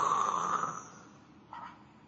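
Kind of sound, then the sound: vocal imitation, voice imitating loud snoring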